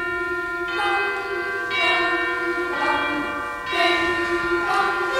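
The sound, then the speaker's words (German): A boys' choir imitates bell ringing in the fifth movement of a symphony, its ringing tones struck about once a second in a steady, resonant pulse against a sustained musical backdrop, fairly loud. “Die Besetzung sieht sogar einen Knabenchor vor. Der imitiert im 5. Satz ein Glockenläuten.”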